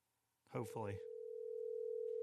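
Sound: telephone dial tone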